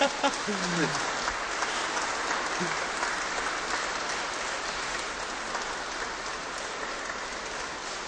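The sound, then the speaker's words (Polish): A large crowd applauds steadily to greet the listeners of Radio Maria, a dense, even wash of clapping that holds at the same strong level for the whole stretch, with a brief voice audible near the start. “No ale przynajmniej oklaskam.”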